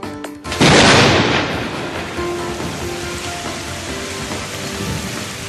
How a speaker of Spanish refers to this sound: Aquí en la Ciudad de la Imagen está otra vez lloviendo de lo lindo. Lo vemos a través de este ventanal que tenemos en el estudio. Es lo que toca en esta jornada de tormentas, de chubascos, ¿no?